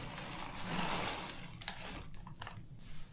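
Liquid bubbles steadily in a cooking pot over a fire while carbonara is being made, a dense simmering burble that thins out toward the end, broken by a few sharper pops. No one speaks.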